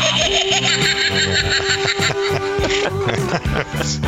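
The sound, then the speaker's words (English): A squeaky electronic sound chip from a seasonal dog toy plays a tinny, bright jingle with a steady tone and bursts of synthetic giggling, loud and continuous for about four seconds. “But a lot of the toys that she gets for the dog have sounders in them.”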